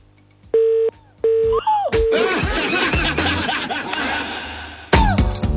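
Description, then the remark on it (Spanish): Three short, evenly spaced telephone dialing tones beep loudly and clearly, then a burst of overlapping voices and laughter takes over and fills the rest. “Tenemos teléfono hasta hora de la tarde.”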